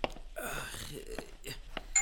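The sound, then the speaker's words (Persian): The doorbell of a home chimes indoors with a bright, ringing tone that lingers briefly, while voices talk around it at moderate volume. “چه عجب، بالاخره صدای زنگ در خونه ما هم بلند شد.”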